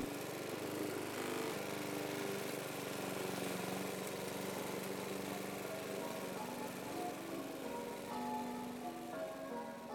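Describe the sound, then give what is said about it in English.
A lawnmower engine drones steadily for the whole stretch as it cuts grass in Northumberland on a still-light evening, heard through an open window, a continuous buzzing hum with a slight wavering pitch, moderately loud, with no voices. “the curtains were closed, and the window was open, and I could hear and smell my daddy's lawnmower as he cut the grass.”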